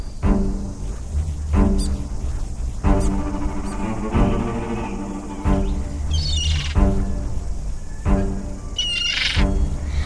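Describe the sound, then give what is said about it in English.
Harsh, repeated bird squawks like a gull calling, several loud nasal cries in an irregular sequence, with no talking. “Asleep, said the gull.”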